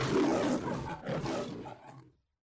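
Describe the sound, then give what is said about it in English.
A loud lion roar with a rough, rumbling growl that surges twice over about two seconds before cutting off into silence. No one speaks. “I have the lion with his head duly tilted, and for which you will explain to me shortly.”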